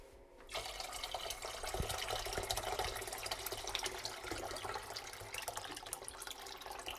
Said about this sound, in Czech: Tak počkej. Já ti naleju do toho hrnce tu vodu, co jsem uvařila na čaj, aspoň se ti rychleji začne vařit.